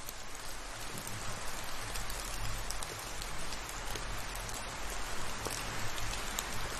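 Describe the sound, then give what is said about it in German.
Raindrops patter steadily from leaves, a soft, even hiss of rain with scattered brighter individual drips ticking through it. No voices, just the gentle, continuous wash of falling water. “Dann wirst du nur noch wenige Tropfen sanft von den Blättern fallen hören.”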